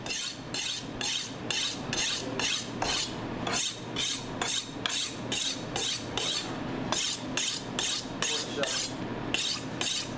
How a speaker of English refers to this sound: He then moves to sharpen his knife for slicing the vegetables.